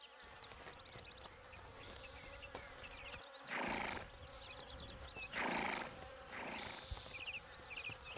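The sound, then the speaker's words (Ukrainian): A horse gives three short, breathy neighing bursts over a steady background of buzzing flies and insects outdoors. “Пошкодовал господар коня, подковал его сталевыми подковами, да и пустил на луг отпасываться.”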